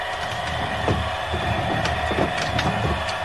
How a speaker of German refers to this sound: Der Schriftsetzer und Drucker Thomas Senf bereitet die alte Handpresse mit Walzen und Kurbel für den Druck vor.